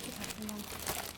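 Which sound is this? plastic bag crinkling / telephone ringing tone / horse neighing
plastic bag crinkling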